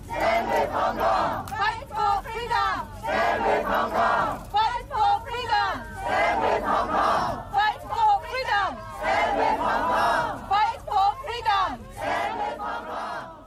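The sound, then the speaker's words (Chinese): A large crowd of participants at a human chain event in Hong Kong chants slogans in loud, rhythmic bursts of unison shouting, phrase after phrase, over a steady background roar of many voices. “咁啊聽下較早之前咧係即係現場嘅參加者高呼口號嘅一啲嘅現場實況嘅聲音嚇。”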